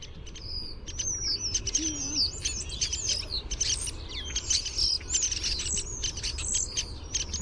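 A flurry of sharp, high downy woodpecker calls and chattering chirps overlaps continuously, several downy woodpeckers calling at once in an agitated chorus as they mob and dive-bomb a starling, with no talking.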